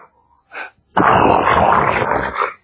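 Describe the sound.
A voice imitates snoring: a short breathy snort, a brief pause, then one long, loud, rasping snore that rattles for about a second and a half before stopping.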